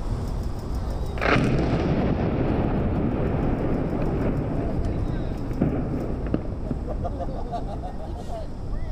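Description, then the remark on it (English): Demolition explosives bring down the steel arch of the Broadway Bridge connecting Little Rock and North Little Rock on a Tuesday morning: a sharp explosive blast, with a second, fainter report a few seconds later, over a steady low rumble and murmuring voices. “And this was to be an especially dramatic week with the steel arch for the Broadway Bridge, connects Little Rock and North Little Rock, to be brought down with explosives on Tuesday morning.”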